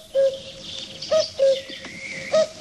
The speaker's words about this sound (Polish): Jeśli Państwo słyszycie, że w styczniu odzywa się kukułka, to niechybny znak, że bez względu na porę roku